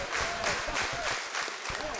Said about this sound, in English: That's low, 2-0. You can hear the crowd reaction.